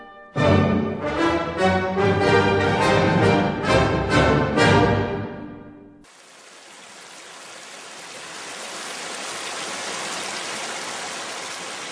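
A short burst of tonal music gives way to a babbling brook, a steady, moderately loud rush of trickling water that fills the second half on its own.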